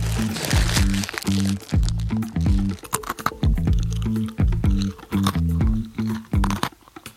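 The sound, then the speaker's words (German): Crunching of someone biting and chewing a crisp, salty pretzel stick (Salzstange), with a steady run of sharp, brittle cracks repeating for several seconds. “So hört es sich an, wenn man in mich reinbeißt.”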